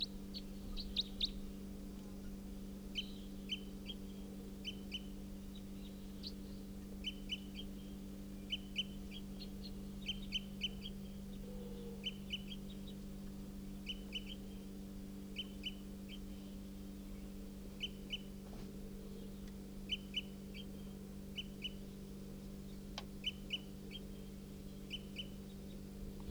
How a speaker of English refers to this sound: It's a wild bird. Stop. Is that wild bird again?